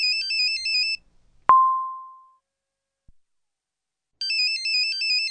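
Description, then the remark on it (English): A mobile phone ringtone plays a short electronic melody, stops, then starts again after a pause; between the bursts a single bright ding rings out and fades. No voices. “Oh, it's my phone.”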